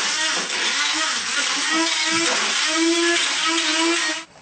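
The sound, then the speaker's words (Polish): A blender with blades runs steadily, whirring loudly with a broad, gritty roar and a low motor hum that wavers slightly as it purees beans into a smooth paste, then cuts off abruptly. “Mamy taki blender z nożykami i tym blenderem możemy miksować fasolę na gładką masę.”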